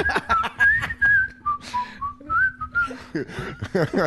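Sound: human whistling a tune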